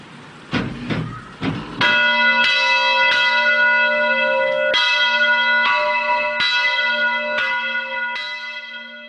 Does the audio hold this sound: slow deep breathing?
no